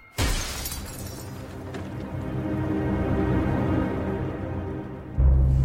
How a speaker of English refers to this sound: As he raves insanely, his eyes closed, Liz hurls herself through a glass door.